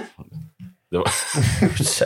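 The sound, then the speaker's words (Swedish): A person speaks a few words, then lets out a loud sneeze, a sudden noisy burst that trails off over about a second. “Prosit, det var inte omlack i alla fall.”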